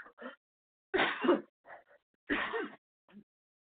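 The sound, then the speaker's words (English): Two loud, harsh coughs, about a second and a half apart, each with short breathy sounds before and after, and no talking. “Excuse me, I got a cough.”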